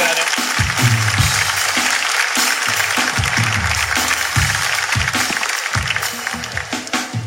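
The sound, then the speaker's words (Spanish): A crowd claps steadily for several seconds for the speaker's friend, a dense, continuous patter of applause with some murmuring voices underneath, staying fairly loud throughout. “¡Un aplauso para mi amigo!”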